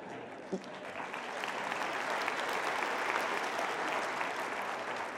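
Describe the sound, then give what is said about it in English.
Sustained audience applause in a theater, a dense, steady wash of many hands clapping that swells in the first second and holds at an even level throughout, with no voices standing out. “That seems a little bit like applauding my Kickstarter campaign, but thank you.”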